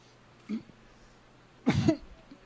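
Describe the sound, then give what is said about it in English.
A brief throat noise, then one loud, forceful hacking cough as a person coughs up a playing card during a magic trick, as if forcing something up. No one speaks; quiet room tone fills the gaps. “There it goes. Cough it.”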